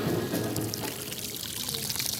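Water gushes steadily from a leaking, half-opened fire hydrant outside a rehearsal hall, amid rows of tents, with a bucket of dishes and clothes set down to catch the drops; a continuous hissing, splashing pour that holds an even loudness throughout, with no voices.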